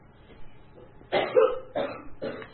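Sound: cough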